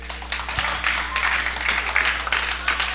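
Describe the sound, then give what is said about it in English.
A crowd applauds for the speaker's daughter, many hands clapping in a dense, continuous patter at an even loudness throughout, with a faint low hum underneath and no clear voices. “Y'all clap your hands for my daughter.”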